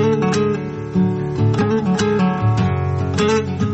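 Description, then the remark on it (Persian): A plucked guitar in a song plays a steady sequence of ringing notes with sustained tones beneath, fairly loud, with sharp attacks recurring about every half second and no voices. “حس تعلیق و بهت زدگی که صدای گیتار تو این آهنگ ایجاد میکنه رو متوجه میشید؟”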